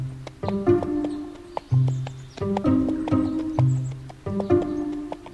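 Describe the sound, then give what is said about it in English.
Donkey hooves clip-clop in a steady, repeating rhythm as Balaam rides off on his donkey, sharp knocks falling at regular intervals over a low humming, tonal backdrop, moderately loud. “So Balaam started off on his donkey to see what he could do.”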